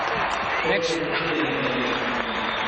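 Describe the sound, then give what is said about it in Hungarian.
A large crowd welcoming Hungary's Olympians applauds steadily and loudly, the big applause going to Olympian Krisztina Egerszegi, a dense wash of clapping that holds for the whole moment, with voices murmuring and calling out beneath it. “Hát jó nagy ez a taps.”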